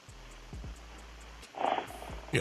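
Someone snoring: a low, rumbling drone with a few rhythmic pulses, broken by a couple of louder, raspy breaths near the end. No one speaks.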